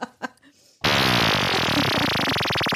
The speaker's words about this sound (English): It's a ghost fart. I caught it on my... caught it on my flatulence monitor.